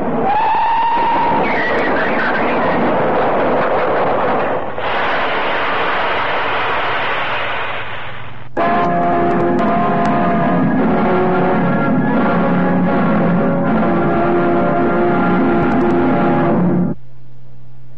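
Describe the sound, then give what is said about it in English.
A train braking hard as the driver brakes for an elderly man walking onto the line: a loud, rushing rumble with a brief whistle-like tone at the start, then a long, sustained shrill screech of brakes that cuts off abruptly near the end. “The silly old coot's walking onto the line! Here, put on them brakes!”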